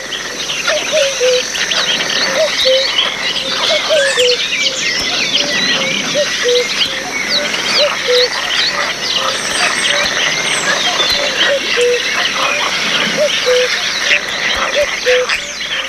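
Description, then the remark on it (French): A dense outdoor chorus of cuckoos, frogs and many birds: chirping and singing, a repeated two-note cuckoo call and a steady trilling buzz from frogs, continuous throughout. “On entend des coucous, des grenouilles, des oiseaux.”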